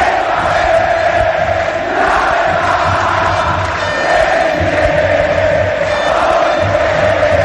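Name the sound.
stadium crowd roaring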